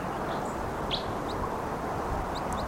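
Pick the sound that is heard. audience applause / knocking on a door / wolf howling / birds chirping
birds chirping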